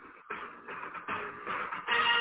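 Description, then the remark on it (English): A mobile phone goes off on its own, a run of buzzy, midrange pulses with short gaps between them that grows a little louder toward the end, with no one talking. “That's my phone. That was your phone?”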